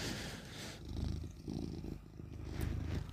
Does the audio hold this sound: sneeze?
no